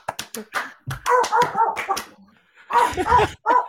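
A dog barks in quick, excited bursts, several sharp yappy barks, pausing briefly before another flurry and a final bark.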